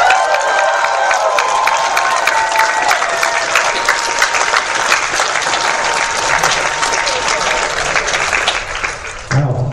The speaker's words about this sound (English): So everybody, loudest round of applause that you can give